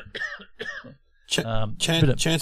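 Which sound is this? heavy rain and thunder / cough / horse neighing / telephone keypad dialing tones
cough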